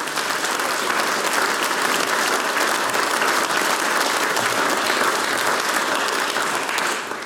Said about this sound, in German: Ich sage vielen Dank euch für Freude weiterhin beim gemeinsamen Singen. Applaus für den … und das ….